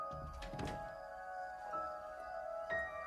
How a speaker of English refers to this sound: She turns out the hall light and they walk away. Glenn shuts a door to their bedroom.